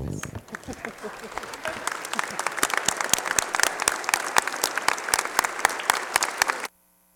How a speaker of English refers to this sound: So let's give her a loud applause today as she stands up.